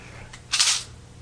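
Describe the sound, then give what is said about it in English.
A short, crisp ripping burst of Scotch tape being pulled and torn, fairly loud, preceded by a faint brief rasp, over a low steady background hum. “Scotch tape.”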